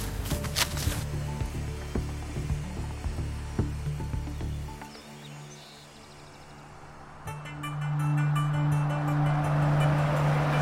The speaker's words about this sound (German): fährt den Wagen in einen Lagerschuppen.